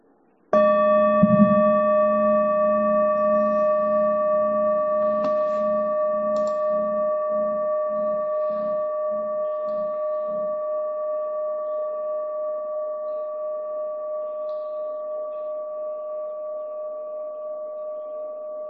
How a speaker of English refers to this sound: I'll ring a bell. We can begin.